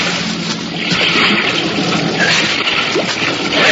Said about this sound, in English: The impact of the landing threw me against the wall of the fuselage, but a moment later, the sound of water rushing in through the loading doors brought me around fast.